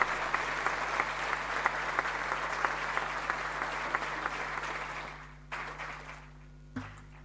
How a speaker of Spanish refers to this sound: Así que pido un fuerte aplauso para todos esos intendentes de distintos signos, pero que se animan a trabajar juntos.